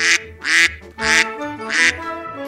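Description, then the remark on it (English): Four loud, nasal quacks from a mother duck in a steady, even rhythm, clear, with no talking over them. “Mother duck said, "Quack, quack, quack, quack."”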